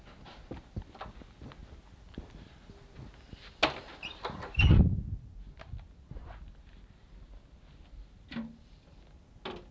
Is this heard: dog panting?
yes